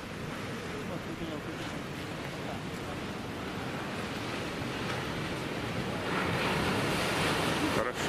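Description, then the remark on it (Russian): Continuous roar of ocean surf with a rushing, wind-buffeted texture as surfers ride the waves, steady, swelling a little louder near the end as a wave seems to break. “Хорошо сел на, в смысле, хорошо перестроился на другой фронт волны.”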